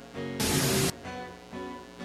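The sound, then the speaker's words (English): A sudden, loud burst of harsh static hiss lasts about half a second, then cuts off abruptly, with a soft sustained musical tone continuing underneath before and after, in a mock advert for a prayer pill called Stativert. “Are you troubled by worldly static when you pray, making it difficult for you to hear from God?”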